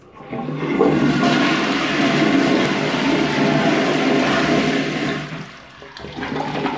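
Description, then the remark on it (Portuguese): A toilet flushes loudly, a broad rushing roar of water lasting about five seconds before it tapers off into a quieter refilling trickle. “Se for bom, dê carga. Se ruim, descarga.”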